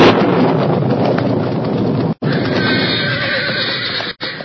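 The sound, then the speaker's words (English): A roan horse whinnies loudly, agitated and frightened by the resounding crash of lightning during a storm, over a dense, steady rush of wind-like noise. The sound cuts out twice for an instant, and no one speaks. “Boulder Creek was a raging torrent, and lightning forked down from low-hanging clouds with resounding crash that made the roan horse whinny with fear.”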